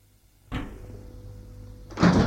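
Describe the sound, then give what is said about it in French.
A bedroom door opens with a sharp click of the latch in the lock, then a low, drawn-out scraping creak as it swings, ending in a louder clattering knock. “Réveillé par un bruit dans la serrure, la porte s'ouvre.”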